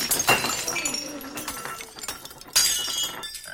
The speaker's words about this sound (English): the pole smashes through a row of glassware.